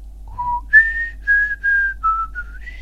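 Someone whistles a short, clear melody of sustained notes stepping up and down in pitch, close and fairly loud, with no talking.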